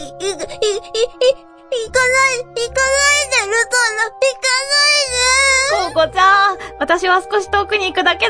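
Someone cries and sobs loudly, in long wavering wails broken by short catches of breath, with a low steady hum underneath.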